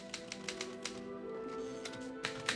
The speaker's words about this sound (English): In this scene from the film, Schindler and his bookkeeper Stern, played by Liam Neeson and Ben Kingsley, are typing up the list of Jewish workers who will fall under Schindler's protection.